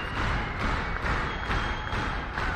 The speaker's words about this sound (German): Wenn alle zusammen rhythmisch klatschen, dann heißt das, wir wollen dich nochmal hören.